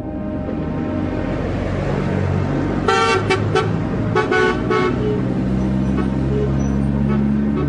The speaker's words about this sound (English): Trucks rumble through town from the surrounding hills, bringing ores and metal concentrates from nearby mines for processing.